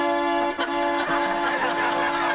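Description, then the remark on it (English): An accordion holds a loud, steady, blaring chord for a couple of seconds, imitating the horn of a 1956 Chevy station wagon, with a brief dip near the start and no other sounds. “56 Chevy station wagon.”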